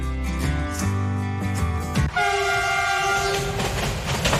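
A train rumbles by at close range while its horn blares in long, loud, sustained blasts, the pitch shifting partway through as the cars keep rolling past.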